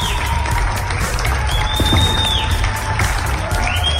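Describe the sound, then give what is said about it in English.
Thousands of Londoners in the UK applaud healthcare workers from their doorsteps and balconies during the coronavirus outbreak: a steady, dense wash of clapping that holds at an even level throughout, with a few high whistles rising above it. “Thousands of Londoners took to their doorsteps, collectively applauding the healthcare workers in their country.”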